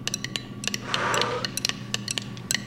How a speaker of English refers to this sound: Roll. Okay, I'm going to go ahead and roll the dice if you'll give me a little blow on them bones.